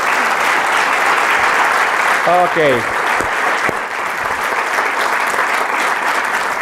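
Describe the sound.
An audience applauds steadily for several seconds, a dense, loud wash of clapping, while a voice briefly speaks over it midway.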